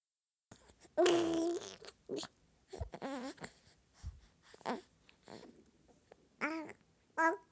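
A baby snoring at 10:05 pm on 22 March 2020, during the lockdown, snuffling with a loud wheezy snort at the start followed by irregular short nasal breaths and squeaky, voiced little grunts. No one speaks.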